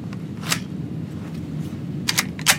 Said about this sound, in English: We have a bit of tape here, but just as a warning, you are going to hear the sound of gunshots. So I'll load the firearm here.